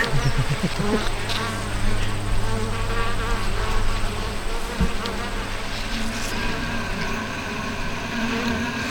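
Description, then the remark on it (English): A dense, steady drone of many honeybees buzzing at a hive entrance, with lots of bees going in and out, a continuous layered hum with individual bees whining past now and then, no voices present. “There's a lot of traffic going in and out of there.”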